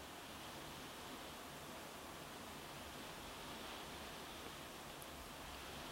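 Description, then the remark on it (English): Steady, dense hiss of rain drumming on a roof during a thunderstorm, an even wash of noise with no pauses or thunder claps, soft and constant throughout with no voices. “I can hear the rain on the roof of the thunderstorm.”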